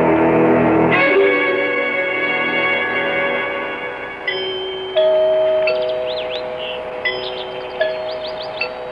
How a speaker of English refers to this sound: Did you hear the chimes? It sounds like the bell in our tower.